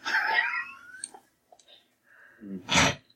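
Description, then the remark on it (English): A cat mewls in a thin, wavering cry, followed by scattered bumps and scuffles, then a sharp, noisy burst as the animal frantically struggles. “You hear the frantic strugglings of the cat along with its pathetic mews.”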